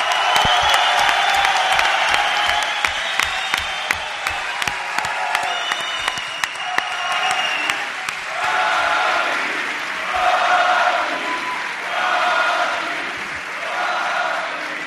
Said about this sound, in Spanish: Pido un aplauso para el hijo adoptivo del puerto de Santa María, Joaquín Sánchez.